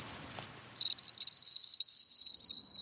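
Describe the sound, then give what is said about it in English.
A cricket chirps in quick, steady pulses, a high thin trill repeating rhythmically, with a few sharper clicks layered over it. Clear, with no voices. “So you go outside at night and you listen for cricket song.”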